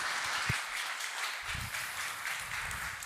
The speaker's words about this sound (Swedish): Wow, en applåd för henne.